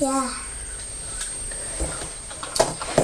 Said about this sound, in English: What a funny noise. What's a funny noise? What was it? You crunching the apple? The bite.